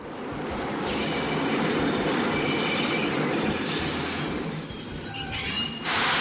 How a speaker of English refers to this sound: We had been waiting for the train this week. Well, here it comes.